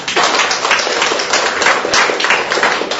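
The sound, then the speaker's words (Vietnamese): An audience applauds steadily and loudly for about three seconds to congratulate those named Maria Magdalena on the feast of Saint Mary Magdalene, 22 July. Many hands clap in a dense, continuous wash with no one speaking over it. “Chúng ta cùng một tràng pháo tay thật lớn để chúc mừng những Maria Magdalena.”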